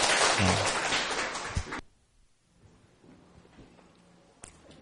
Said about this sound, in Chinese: 那我们就请大家热烈掌声欢迎这两位语谈人啊。